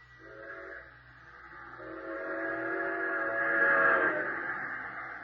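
passing train with whistle

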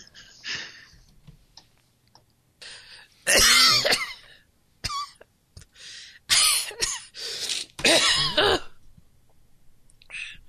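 repeated sneezing

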